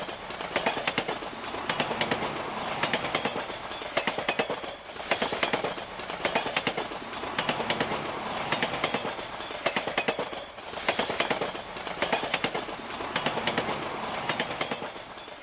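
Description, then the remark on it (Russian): Loud, steady metallic rattling and clattering inside the gangway between moving train carriages, with rhythmic clanks recurring every couple of seconds and no voices. “Натужно улыбнувшись, я открыл дверь и вошел в грохочущую гармошку перехода между вагонами.”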